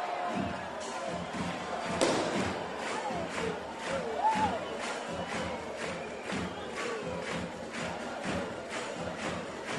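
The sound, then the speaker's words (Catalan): A large crowd in Vic roars and cheers continuously in euphoria at the night-time Mulassa folk dance, a dense wash of voices with scattered shouts and whistles rising above, steady and loud throughout. “Esclat d'eufòria amb aquest ball de la Mulassa de Vic, una figura estimadíssima per la ciutat, i en el que ha esclatat d'alegria quan ha tornat aquest element per la nit de completes.”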